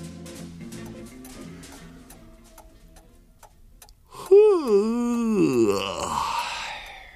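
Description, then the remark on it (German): After a few quiet seconds of faint ticking, a loud, drawn-out yawn swells up, its voiced pitch rising and falling before trailing off into a breathy exhale, as a person scratches himself. “kratzte sich an derselbigen und gähnte laut vor sich hin.”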